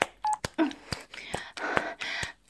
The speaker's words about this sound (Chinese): 谁呀、啊？怎么这个时候打电话来？